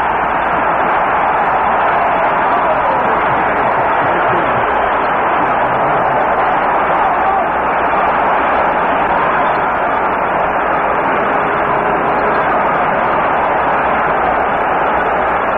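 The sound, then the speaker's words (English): A huge football stadium crowd of Detroit Lions fans roars continuously and loudly, a dense wall of cheering voices that holds steady throughout with no clear pauses, reacting to an interception by Lions linebacker Bob Long against Cleveland. “The roar tells you how this highly partisan Detroit Lion crowd felt about that interception by left linebacker Bob Long from UCLA.”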